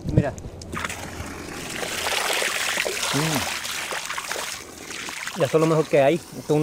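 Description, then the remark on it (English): Spring water pours steadily from a pipe run from a nearby mountain stream, a continuous rushing splash, with brief bits of people talking at the start and near the end. “people ran these pipes from nearby streams as a source of water”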